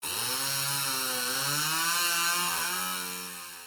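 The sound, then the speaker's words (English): A chainsaw is started up and its engine runs loudly and steadily for a few seconds, its buzzing pitch rising and dipping slightly before easing off a little at the end; no one speaks. “Confused, the salesman takes the chainsaw and starts it up to see what's wrong.”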